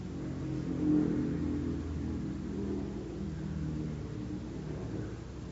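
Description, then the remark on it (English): A motorbike engine revs and rumbles, swelling loudest in the first second, then settling into a steady, throaty drone as it passes. No voices are heard. “The reaction to the motorbike.”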